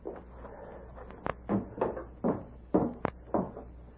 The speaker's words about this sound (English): Door wide open.